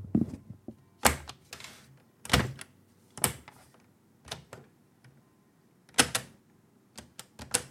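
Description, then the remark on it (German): Irregular mechanical clacks and clunks from a Schneider CPC-464 home computer with its built-in cassette drive, about a dozen sharp hits, some doubled, over a quiet low hum, with no talking. “Das ist der Schneider CPC-464. 64K Color Personal Computer.”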